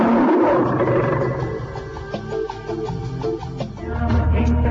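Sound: lion roar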